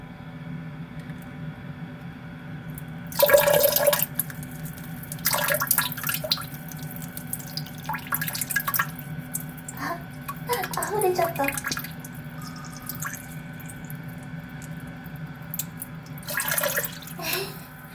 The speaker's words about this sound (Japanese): それでは、トイレに到着しましたので、早速おしっこしていきたいと思います。よいしょ、出るかな。じゃあ行きます。